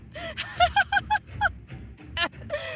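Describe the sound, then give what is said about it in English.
Swans honk loudly, a rapid series of nasal calls that overlap as several birds sound off at once, with a final honk trailing off. No one speaks. “Did you know that a group of swans is called a lamentation?”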